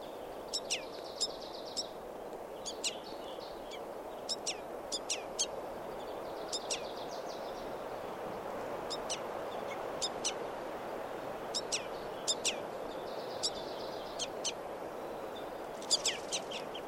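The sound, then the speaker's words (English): A juvenile bird perched on the bark of a tree calls repeatedly with short, sharp chirps in irregular bursts of two or three, over a steady rushing background of wind or ambient noise. “And now I see a calling juvenile perched on the bark of a tree.”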